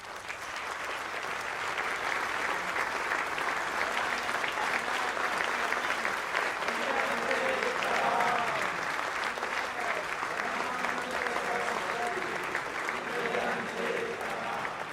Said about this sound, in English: The Raja's applause is deceptive.